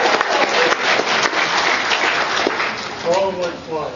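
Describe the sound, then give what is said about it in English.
An audience at a convention breaks into steady, dense applause, a rush of many hands clapping at once that holds its level; near the end a voice begins speaking over the fading clapping. “so let's hear it for them”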